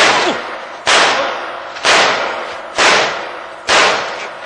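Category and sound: sound effect, gunshot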